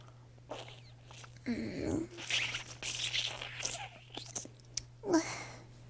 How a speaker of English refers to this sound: Licking isn't very effective. Your cum is running away from my tongue. Slurping seems to be clearly superior.